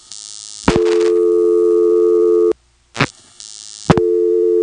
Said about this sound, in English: This director system, no matter where you find it in the U.S., makes that buzz. I think it's the AE system. And sure enough, as soon as the line finder puts you through to the link which goes to that director, there's the buzz.